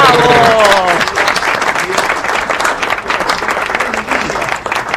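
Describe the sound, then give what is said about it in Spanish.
A studio audience bursts into sustained applause for a guest entering the studio, dense steady clapping; a voice is briefly heard at the very start before the clapping takes over. “Está entrando al estudio, señor Paz Martínez, le vamos a aplaudir.”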